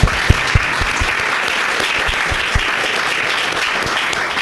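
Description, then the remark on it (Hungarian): An audience claps steadily for several seconds to welcome a guest, the chief field rabbi of the Hungarian Defence Forces, to a discussion: a dense wash of many hands with a few sharper individual claps standing out near the start, fairly loud. “Kérem, hogy tapsal köszöntsük, légy szerint.”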